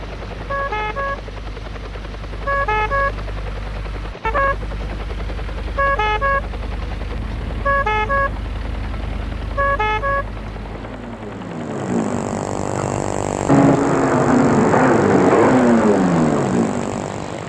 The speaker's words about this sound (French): L'ambulance va jusqu'au parc de la Tête d'Or qui est fermé au public. L'hélicoptère les attend sur la pelouse des ébats.